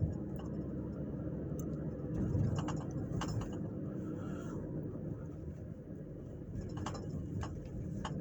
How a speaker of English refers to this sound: I'm going down the road here in this bumpy road, and I got a refrigerator in the back of the truck here. The SUV, then, yeah.